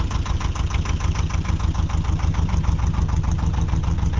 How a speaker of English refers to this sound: No, it's a canal barge in Birmingham, actually.